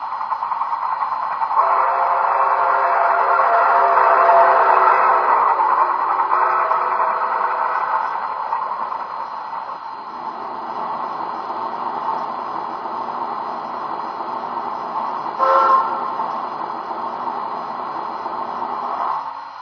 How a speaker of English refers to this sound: Now departing for New York on track 1, train number 6, the Pennsylvania Limited.